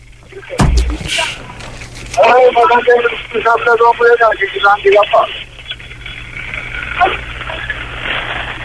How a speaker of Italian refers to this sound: il telefonino credo che sia caduto, a giudicare dai rumori, lo stanno picchiando, attenzione.